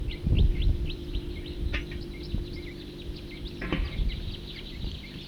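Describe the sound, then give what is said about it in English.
Many short, high chirping calls from a flock of birds passing overhead, overlapping in a steady scattered stream over a low rumbling background, with a couple of brief sharp clicks. “Larger flock flying over.”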